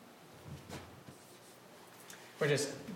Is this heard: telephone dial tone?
no